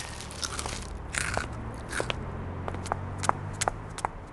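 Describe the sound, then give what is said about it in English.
Crisp crunching of crunchy broccoli clumps from a king-size tub being bitten and chewed, with repeated sharp cracks over a low background hum and no talking. “Here's your change, and here's your king-size tub of crunchy broccoli clumps.”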